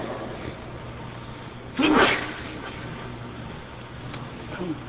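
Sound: sneeze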